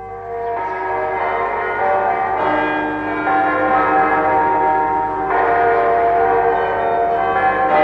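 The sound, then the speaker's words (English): Church bells of the city of Glasgow, Scotland, ring steadily and loudly on a Sunday morning, their rich overlapping tones swelling with fresh strikes every few seconds, with no voices present. “Next morning, all the bells of the city announced the sanctity of the day, Sunday.”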